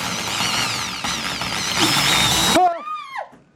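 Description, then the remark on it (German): A large power drill whirs loudly and grinds for a couple of seconds with a harsh, gritty rasp as it bores holes into chestnuts for craft figures, then the motor cuts out and whines through a few brief rising and falling spins before stopping. “nicht wie ein normaler Mensch mit einem Hebel Löcher in die Kastanien zu machen, sondern mit einer schönen großen Bohrmaschine.”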